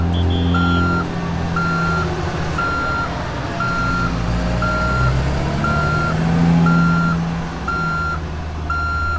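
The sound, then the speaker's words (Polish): A fire truck's reversing alarm beeps steadily as it backs up, a clear high-pitched tone repeating about once per second, nine times in all, over a constant low diesel engine rumble. “Samochód podjechał tyłem.”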